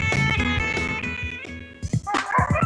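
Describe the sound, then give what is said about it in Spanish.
Several puppies belonging to a neighbor bark and yip in quick, overlapping high-pitched bursts, with a sharper flurry of short yaps toward the end; no one is speaking. “Lo bueno fue probarlo. Opinaron los cachorros del vecino.”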